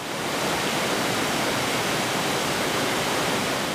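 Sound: river water flowing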